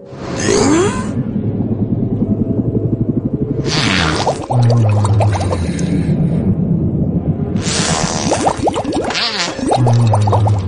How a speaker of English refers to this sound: And the only reason I think that audio might be authentic is because you can hear how the whale kind of, he lets it go and then, so maybe it's real audio of whales farting.